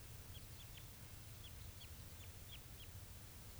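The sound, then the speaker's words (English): A wild bird responds with call type 387, a quick series of about eight short, high, downward-sliding chirps at uneven intervals, faint over a steady low rumble. No one speaks. “That's a wild bird responding with 387.”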